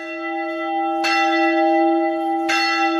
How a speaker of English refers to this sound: The bells of Al-Tahira Church ring out across Mosul, a symbol of the rebirth of the old city that was left devastated 8 years ago after the battle to drive ISIS out.